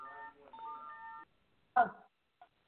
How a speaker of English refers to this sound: Does anybody hear that? Yeah, that's my cell phone going crazy.